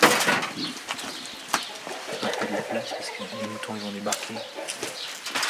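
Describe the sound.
Chickens cluck and murmur in a hard-walled henhouse, several birds with short repeated calls overlapping, while a person speaks underneath.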